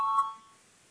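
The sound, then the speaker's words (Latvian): A single bright electronic chime rings out and quickly fades within a second, clear, with no voices present: a parliament's voting bell rung before a vote on a proposal. “Lūdzu zvanu, balsosim par 85. frakcijas saskaņu priekšlikumu.”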